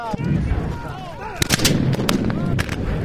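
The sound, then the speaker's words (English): Several loud 12-pound howitzer cannon blasts boom in quick succession at Picacho Peak, bombarding men in dusty uniforms. Each is a sharp, heavy burst over a rumbling battlefield din, with shouting voices rising and falling underneath. “They struggle to reload their muskets and rifles under relentless bombardment from 12-pound howitzer cannons.”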